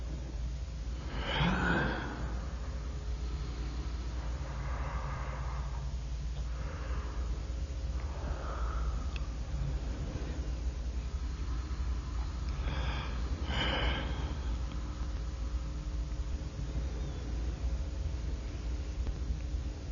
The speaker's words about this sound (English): Experiment zur Klärung der Frage, ob ein Gähnen, dem man ganz genau anmerkt, dass es nur ein auf Tonband aufgenommenes, also vom Menschen abgelöstes ist, auch so ansteckend wirkt, wie das Gähnen eines Menschen, den man sieht.